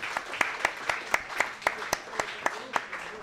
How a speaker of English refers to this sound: Well, we appreciate all you guys being here. How about a nice round of applause for Chucks for hosting once again?